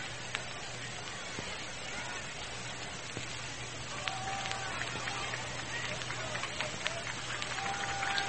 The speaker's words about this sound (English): a round of applause for Ernie